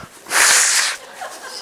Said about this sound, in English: if I blow my nose, yeah, okay.